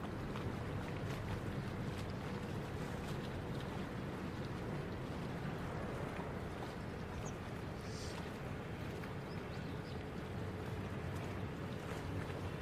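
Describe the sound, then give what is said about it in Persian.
A boat moving along a river through the middle of a city, by a bridge that crosses the river, with two people aboard; its steady low rumble and rushing water wash continue evenly throughout, with light wind noise and no voices. “نمای پلی که از روی رود وسط شهر عبور میکنه. جاوید و ابرا تو قایقن.”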